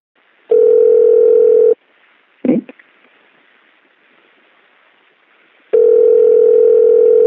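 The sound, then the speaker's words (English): A telephone rings on the line as a call is placed: two long, steady electronic ring tones separated by several seconds of quiet, with a brief click in between, heard clearly. “I've got Sam Snyderman's son's phone number. Shall we give him a call and find out how it all went down?”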